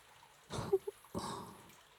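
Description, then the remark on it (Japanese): Body soap lathering with water while scrubbing the shoulder and arm: two soft, wet squishing rubs, the first with a couple of tiny bubbly pops, separated by a brief pause, with no one talking. “はあ、確かに泡立ちいいね、このボディーソープ。”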